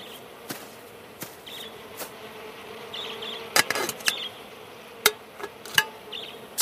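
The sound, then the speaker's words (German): Bees drone in a steady, continuous buzz throughout, with scattered sharp clicks and taps breaking through now and then. No one speaks. “Siehst du, mein Kleines, die Bienen und Schwalben schauen dir zu bei deiner Geburtsstunde.”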